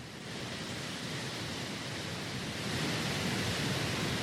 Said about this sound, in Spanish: Justo al frente del mar, justo bellísimo. Al frente de la playa, sí. Oigamos la playa.